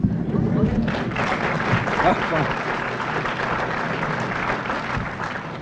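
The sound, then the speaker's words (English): An audience applauds steadily for several seconds after a poem is read, a dense wash of many hands clapping at even loudness, with a murmur of voices mixed into the crowd noise. “You know, I thank you very much for that applause.”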